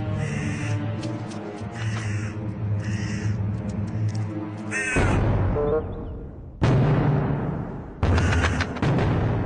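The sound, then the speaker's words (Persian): A flock of crows on a farm caws in harsh, rapid, loud bursts, then several heavy booming drum beats break in at uneven intervals while the cawing carries on underneath. “چند روز بعد بازم مزرعه پر شده بود از کلاغ‌های موزان.”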